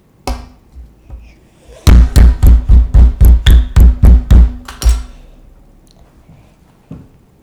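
Loud chewing of a pancake, about ten quick rhythmic munches packed into three seconds, framed by a few soft scattered thuds and mouth sounds, with no talking.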